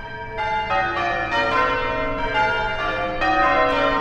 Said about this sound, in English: The fourth example of people playing bells is called change ringing. Change, as in a change of clothes.